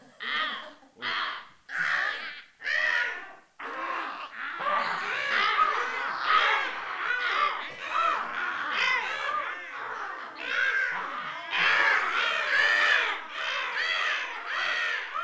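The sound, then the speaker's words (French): Two crows caw back and forth, loud, starting with four separate harsh caws before the calls crowd together into a continuous, overlapping stream of raspy cawing. “Deux corbeaux qui font la conversation.”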